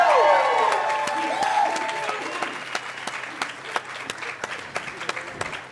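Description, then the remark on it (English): An audience at WonderCon bursts into loud applause with whoops and whistled cheers at the start, welcoming the first guest, the voice of Donald Duck on Disney Junior; the cheering fades after a couple of seconds, leaving scattered, thinning claps that taper off. “All right, WonderCon, let's bring up our first guest today, best known as Donald Duck on Mickey Mouse and the Roadster Racers on Disney Junior, Daniel Ross, everybody, give it up!”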